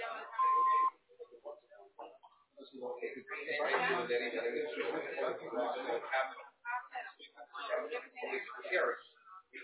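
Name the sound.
answering machine beep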